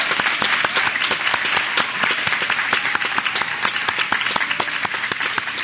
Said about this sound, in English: I want you to give a loud round of applause for all those people that make the effort to gather with us on Skype training.